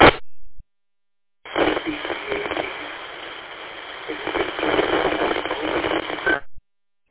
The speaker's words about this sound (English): I had a toilet flush on the last one. So, hang on.